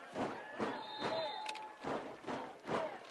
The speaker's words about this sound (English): Bears fans stomping on these stands. Let's go, Bears.